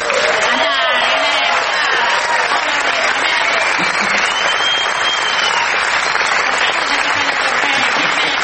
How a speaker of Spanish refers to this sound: Peor todavía va a ser la ovación para el artista antes llamado ….